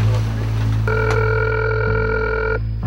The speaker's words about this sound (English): Dial tone. Here we go. Tape is rolling.